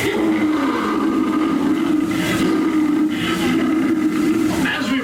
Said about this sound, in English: There we were in an explorer's launch on a mysterious river in deepest adventure land. Off in the distance comes the fierce roar of an African lion.